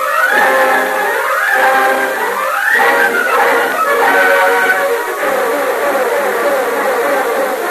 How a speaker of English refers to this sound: Here comes the boat around the bend.